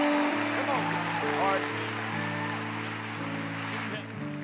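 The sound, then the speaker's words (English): Steady, dense applause from a crowd in Pittsburgh as a pastor comes up keeps a constant hiss-like clatter for several seconds, with sustained organ or keyboard chords holding underneath and shifting pitch partway through. “Give him a big old hand as he comes, would you?”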